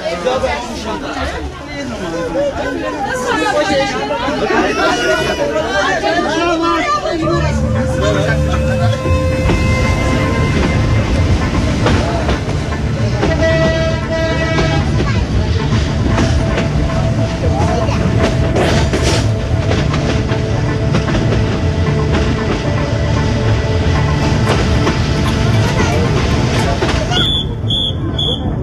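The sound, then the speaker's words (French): Loud, steady crowd chatter fills a busy train platform, and after a few seconds a deep rumble and droning hum rise beneath the voices as a train pulls out, 35 minutes late. “Il y a encore beaucoup de monde sur les quais.”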